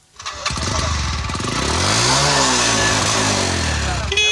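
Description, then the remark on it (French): A motorcycle engine starts and revs loudly, its pitch climbing and then easing back down in one sustained, throaty rev with no voices over it, at the motorcycle market in the old bus station in Maroua, where bikes are bought and sold. “Le marché des motos, implanté à l'ancienne gare routière, accueille chaque jour vendeurs et acheteurs.”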